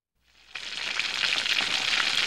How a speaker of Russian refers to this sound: А, стоп, простите, это я перепутал. Это картошка жарится.